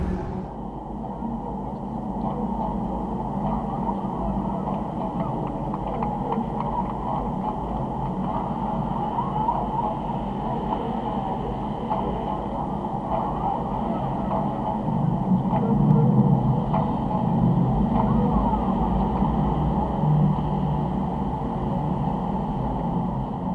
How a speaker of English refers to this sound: It's an effective transformer for traffic noise, the so-called bad noise in the streets by cars and trucks.